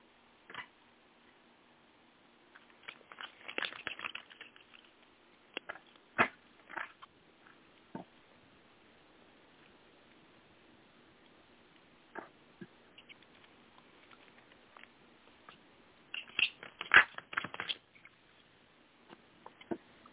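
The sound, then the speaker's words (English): Cards being shuffled for a card reading, with two bursts of rapid papery flutter and scattered soft taps and clicks in between. Quiet, with no talking. “Give me a second while I shuffle the cards.”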